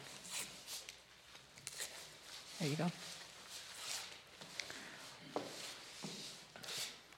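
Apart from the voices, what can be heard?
paper being torn up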